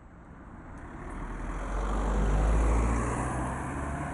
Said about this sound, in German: Es war reger Betrieb heute Mittag vor dem Motel bzw. dem Hotel Egerkinge, wie es heute heisst. Autos sind her und weggefahren.